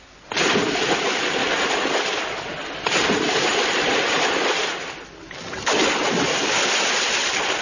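Three loud splashes into water, each a sudden crash followed by a frothy wash, coming at roughly even intervals of a couple of seconds, the third made by a person, with no voices.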